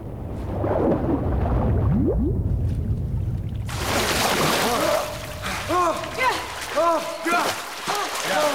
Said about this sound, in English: Suddenly, a huge ball of flames erupts, sending them diving back under the water.